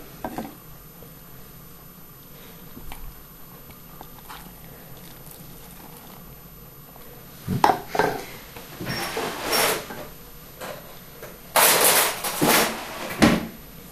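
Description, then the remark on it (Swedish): A spoon is drawn through bubbly sourdough that is ready for baking, with bubbles under the surface, making soft, wet crackling and squelching bursts in the second half after a quiet start, with no one talking. “Och om jag drar en sked igenom surdegen här så finns det lite bubblor här under också.”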